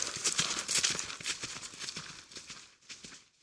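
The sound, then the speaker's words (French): Horse hooves gallop in a quick, steady rhythm of clip-clop beats, moderately loud, over a bright hissing background, easing slightly toward the end with no voices. “Or, pendant que l'ours galope vers Maupertuis, deux choses étranges arrivent.”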